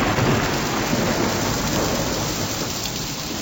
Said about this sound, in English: Oh, the whole ground was just overflooded with water, and we could not trace out our way to return to our guru's ashram. Do you remember that heavy rainfall? Actually, it was not even a rainfall. It was, I guess you could call it a devastation.